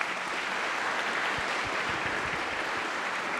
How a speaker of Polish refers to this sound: Państwo Sacharzewscy, Magdalena i Kamil, również dla Was wielkie brawa